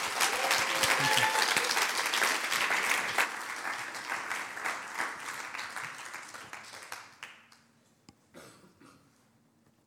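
Loud audience applause with dense, rapid clapping that holds steady for several seconds, then thins out and fades to scattered claps and quiet near the end.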